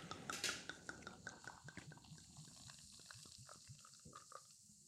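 A carbonated ginger drink is poured in Odense, a brief splashing rush followed by a dense crackle of tiny popping bubbles that gradually thins out, fairly quiet, with no one speaking.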